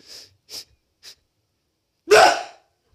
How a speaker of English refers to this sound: I'm going to sneeze.